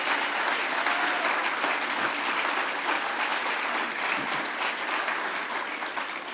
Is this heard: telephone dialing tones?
no